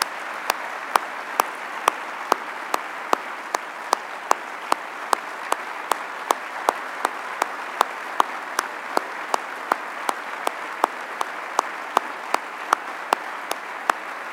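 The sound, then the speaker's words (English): An audience applauds steadily for about fourteen seconds, a dense wash of clapping with sharper individual claps cracking through at a regular pace. No one speaks. “Folks, let's give Jim a round of applause.”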